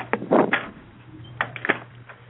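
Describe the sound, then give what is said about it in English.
A heavy door in a tree opens: a few thudding, scraping bursts early on, a pause, then sharper clunks of the latch, all over a steady low hum. “We come to the heavy door in the tree.”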